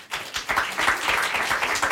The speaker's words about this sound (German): Können wir bitte alle klatschen, so nach dem, was ihr jetzt gehört habt? Würdet ihr, wenn ihr die Möglichkeit hättet, Tester für so eine App zu werden, die zu nutzen, würdet ihr sie nutzen oder nicht? Einmal bitte klatschen.